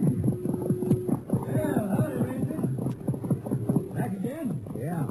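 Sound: horses' hooves clip-clopping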